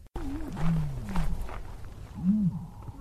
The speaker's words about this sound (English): There's the ostrich. Okay, you guessed right. That was the ostrich, or the oversized budgie, the budgie on steroids. It's a big bird, by the way. Funny sound, not a very usual sound.